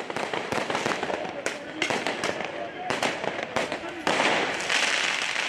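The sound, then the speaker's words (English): Repeated sharp bangs and crackling bursts of firework mortars (Roman candle blasters) going off at irregular intervals during unrest in France, fired horizontally at police, loud over a constant roar of crowd noise and shouting voices. “Many people are armed with firework mortars, so Roman candle blasters, which should be fired from the ground up into the sky for major pyrotechnics, are actually being fired horizontally at police.”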